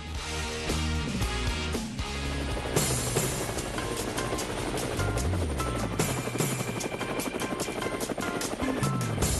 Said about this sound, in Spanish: Bueno, ya se ha hecho común que cuando escuchamos las aspas del helicóptero, pues nos alegramos y nos montamos rápido.